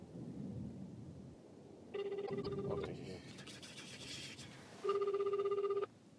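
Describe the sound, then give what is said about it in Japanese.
As a phone call is placed, two bursts of a phone's ringback tone sound over a speakerphone, each lasting about a second with a steady buzzing pulse, separated by a pause, against a low rumbling background. “はい、じゃあかけまーす。”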